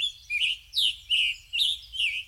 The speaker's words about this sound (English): Now, we hear a scarlet tanager.